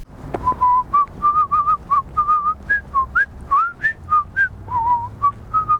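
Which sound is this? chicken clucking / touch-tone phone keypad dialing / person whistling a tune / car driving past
person whistling a tune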